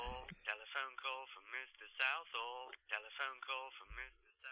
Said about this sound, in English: That's you singing on your own ringtone. That's an ego thing going on there.